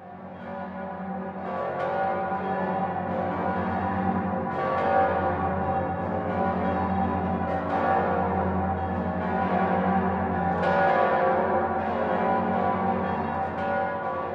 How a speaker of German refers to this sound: Das Passauer Domgeläute zeichnet sich aus, weil es der tontiefste Halbtonschritt ist, den man kennt.